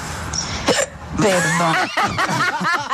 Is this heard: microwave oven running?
no